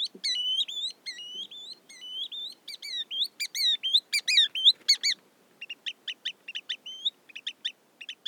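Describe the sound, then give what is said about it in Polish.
A long-billed, long-legged forest bird repeats a monotonous, looping call of bright harmonic notes, steady, giving way to quicker clipped notes near the end, with no talking, recorded in forests near Nisko. “Ciekawy dźwięk, bardzo taki monotonny, zapętlony, nagrany w lasach pod Niskiem.”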